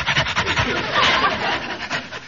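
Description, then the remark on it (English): A man down on all fours imitates a dog panting, copying what a dog does: quick, rhythmic, breathy huffs repeat steadily for a couple of seconds, fairly loud, with no talking. “Well, he's panting, so I'll pant.”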